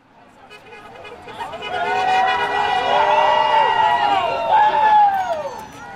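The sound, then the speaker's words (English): A small outdoor crowd of about 24 people on a street corner in the Atlanta suburb of Johns Creek cheers and calls out together while waving signs for a Democratic candidate, voices overlapping in a lively babble that swells and stays steady, with a few higher shouts rising above the mix. “They're cheering and waving signs for Democratic candidate John Ossoff.”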